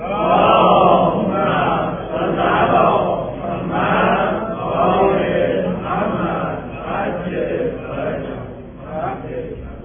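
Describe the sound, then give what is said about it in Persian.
A large audience recites salawat together in unison, a loud, rhythmic swell of many voices rising and falling in waves for several seconds, filling the space without any single voice standing out. “چهارم، یک صلواتی بپسید تا این عرض کنید.”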